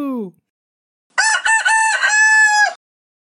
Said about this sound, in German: In jeder Sprache rufen Hähne nämlich anders. In Litauen rufen sie Kakariku. Ein russischer Hahn kräht Kukariku. Und im Englischen Cockadoodledoo.